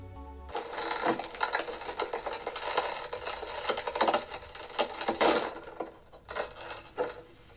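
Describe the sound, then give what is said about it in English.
Dense, dry crackling of the bark of Pando, an aspen tree, recorded by Rice: a steady stream of tiny clicks and pops with brief louder bursts scattered throughout, running for several seconds with no voices. “Rice went on to also capture the crackling sounds made by Pando's bark, and here is that fascinating sound.”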